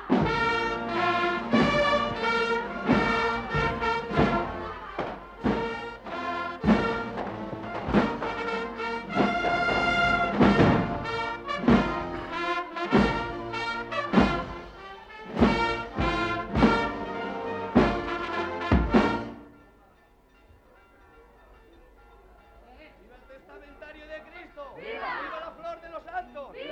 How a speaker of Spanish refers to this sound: No hay aplausos, como en otros sitios, cuando aparece el santo. Los vivas arrecian y se encadenan en este día grande de fiesta para los juanistas, donde apuntan las caras a punto de llorar, emocionadas.